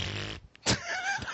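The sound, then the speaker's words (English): A voice blows a wet, buzzing raspberry imitating a fart, a sputtering burst followed by a short gap and another brassy blurt, with no words spoken. “Why are you making fart noises?”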